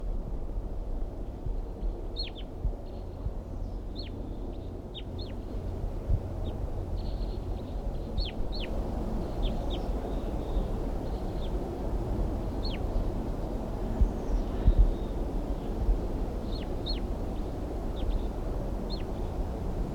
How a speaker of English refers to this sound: So recording the crossbills now, giving alarm calls and a soft whisper song.